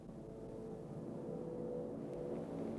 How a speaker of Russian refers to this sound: Слышишь? Где-то высоко летят самолеты.